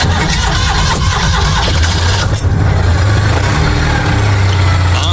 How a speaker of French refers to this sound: Inimitable au démarrage, le ronron rageur d'un moteur sans ambition, la Dodoche, c'est du rustique, du résistant et du folklore.